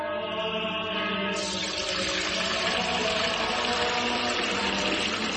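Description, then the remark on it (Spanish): Pure spring water runs in a steady, continuous stream, as if poured or flowing from a tap, with the splashing growing brighter after a moment and holding fairly loud throughout. No voices. “es que no nos quedaba agua bendita. Agua pura de manantial Fuente Umbría.”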